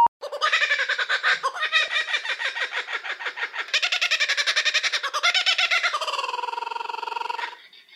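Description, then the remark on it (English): A laughing kookaburra gives its loud, raucous territorial call: rapid rhythmic chuckling cackles that build and rise into a sustained hooting chorus, then stop abruptly after about seven seconds. “If you guessed Laughing Kookaburra, congratulations! You're a real bird expert. This noisy territorial call can be heard deep in the Australian bush and at the Earth Rangers headquarters whenever our Kookaburra animal ambassadors”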